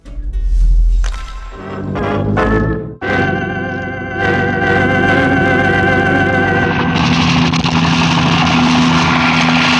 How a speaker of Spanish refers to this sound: Calimán ha llevado el rapidísimo helicóptero por encima de las nubes y luego empieza a hacerlo descender hacia el mar